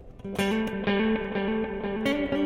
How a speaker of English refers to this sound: Speaking of spring, we've got a spring reverb here that's actually available full-time, you know, with or without the delays.